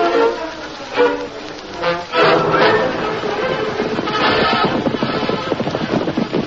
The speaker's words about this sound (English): Isn't that someone riding out of the canyon? It isn't Tonto. A black horse.